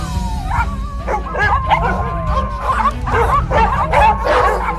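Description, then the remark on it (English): Several dogs bark and yip excitedly, overlapping in a busy clamor, with some high whiny yelps mixed in over a low rumbling background. “Some of the dogs, they're getting jealous. And the paws are coming out.”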